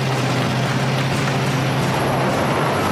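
A heavy truck approaching, its engine rumbling steadily with a deep low drone and broad road noise, fairly loud, holding an even level throughout with no voices.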